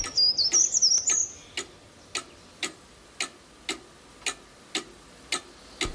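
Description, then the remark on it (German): A cuckoo clock ticks in a steady, even rhythm, each tick crisp, with a brief burst of high chirping bird-like notes at the start. “Zur gleichen Zeit in der Kuckucksuhr.”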